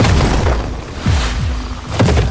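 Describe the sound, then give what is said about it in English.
Heavy cannon fire from Lincoln's army booms out several times in quick succession, deep and loud, each blast rumbling low and overlapping into a continuous roar of artillery. “Follow the sound of Lincoln's cannons.”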